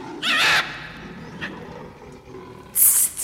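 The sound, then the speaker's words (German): A colorful parrot screeches harshly in two loud bursts, a raspy squawk at the start and a shrill, piercing shriek at the end, with a faint short chirp between and no talking. “Wer wird denn so hässlich kreischen?”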